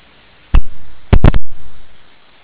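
A radio channel keyed open with no voice: sharp bursts of static crackle, a single pop followed by a cluster of three, then a hiss of open-mic noise that slowly fades.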